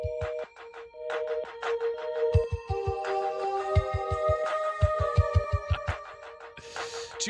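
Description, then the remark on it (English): Upbeat on-hold music from a customer service line: a synthesized tune with steady, punchy bass thumps under sustained chords and a bright melody, ending with a short noisy swoosh. “be sure to look up on YouTube when you're on hold with customer service and they drop this banger.”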